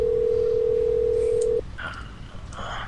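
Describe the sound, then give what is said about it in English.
A loud, steady phone ringback tone from a call to a cell phone holds for about a second and a half, then cuts off into a quieter line with faint clicks and muffled electronic sounds as the call goes to voicemail. “Hold on, I'm calling back.”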